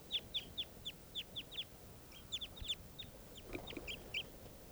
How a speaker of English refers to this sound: This is one of the birds that's calling here. Stop recording. Wild birds.